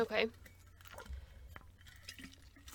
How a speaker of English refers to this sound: Sorry, I had like an ice cube in my water and it came out at the same time I was drinking.